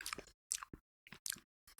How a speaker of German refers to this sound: Mögen auch, glaube ich, unsere Hörerinnen gerne, wenn wir so ein bisschen schmatzen